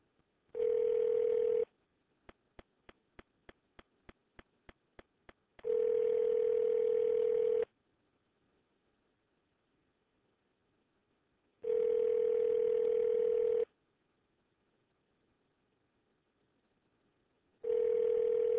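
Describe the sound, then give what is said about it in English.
A phone call rings out: a short burst of tone, a quick run of dialing clicks, then long repeating ringback tones separated by silent gaps, clear and steady with no voices. “Let's see if we can get a live body on the phone.”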